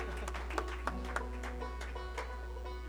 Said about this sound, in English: Leave them a nice big tip. Yeah, they deserve some applause too.